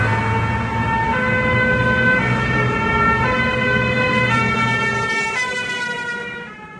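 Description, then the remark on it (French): Loud emergency sirens wail continuously alongside engine rumble as several security vehicles pass, bringing the new French Minister of Defence on an official visit to a large construction site, the sound tapering off slightly at the end. No one speaks. “Voilà, c'est avec grand renfort de sirènes et de véhicules de sécurité que le nouveau ministre de la Défense vient pour cette visite officielle du grand chantier de ce qu'on appelle le Balargone, le Pentagone à la française,”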